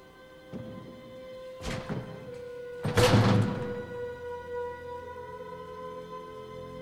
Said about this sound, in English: She tries to force the drawer of a desk.